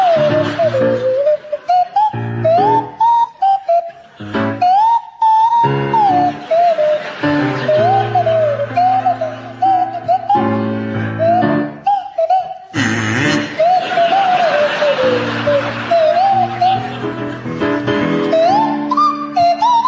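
Barry Cryer on the kazoo and Graham Garden on the swanee whistle play a tune together, the whistle's sliding high notes gliding over the kazoo's buzzy melody, loud, with no talking.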